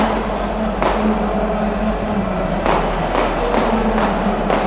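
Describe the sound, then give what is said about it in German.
Firecrackers, thrown by fans onto the pitch along with flares, bang sharply at irregular intervals, about half a dozen over a few seconds. They sound above the constant roar of a large football stadium crowd at a Kaiserslautern match. “Und während Böller und Bengalos aufs Spielfeld fliegen, liegen sich die Lauterer unten in den Armen.”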